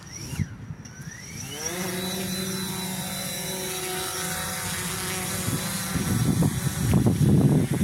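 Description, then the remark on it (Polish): Drone propellers spin up with a rising whine, then settle into a steady, loud whir as it hovers, growing rougher and gustier toward the end as it lifts away. “Taki dron jest przyszłością dla miast.”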